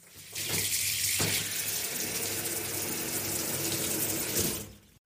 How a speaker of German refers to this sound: Die warme Dusche.